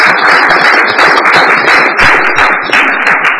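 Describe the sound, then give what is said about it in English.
A crowd at a council dinner breaks into sustained applause for a young woman who has turned 20. Many hands clap in a dense, steady wash of crisp claps that stays loud and even throughout, with no voices rising above it. “Let's give her a round of applause, shall we?”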